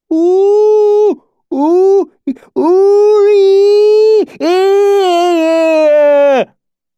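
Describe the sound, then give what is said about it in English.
A loud bellowing cry in long, drawn-out wails, broken by short catching half gasps between breaths. A human voice performs it, sounding moaning and strained. “Tanny bellowed, strange half gasps punctuating his cry.”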